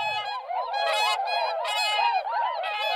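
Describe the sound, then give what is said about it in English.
A flock of whooper swans flying over calls continuously, overlapping bugling, trumpet-like honks that rise and fall in a steady chorus, fairly loud, with no voices. The swans are newly arrived for winter from Iceland, where they breed. “I mean, it's a slightly unearthly sound, hooper swans.”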